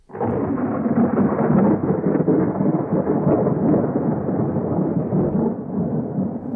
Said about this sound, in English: There was a great storm